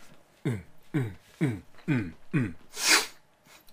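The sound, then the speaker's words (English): Five quick, evenly spaced vocal gasps build up before one loud, breathy sneeze bursts out, followed by a faint sniff. “I had to sneeze.”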